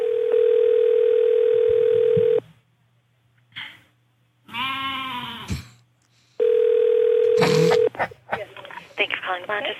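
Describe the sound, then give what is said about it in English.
An outgoing telephone call to the Beverly Hills Hotel rings twice with long, steady buzzing tones. A pet goat's wavering bleat sounds in the gap between them, and a voice starts talking right after the second ring. “This is me calling the Beverly Hills Hotel to make a reservation for me and my party of goats.”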